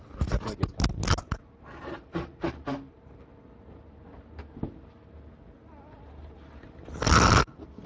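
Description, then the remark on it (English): A microphone falls to the ground: a flurry of rustling, scraping handling noises, then a quieter stretch and a single loud, harsh thump-and-clatter near the end. No one speaks. “So I didn't want to have it record me blowing my nose, but it records the mic falling on the ground.”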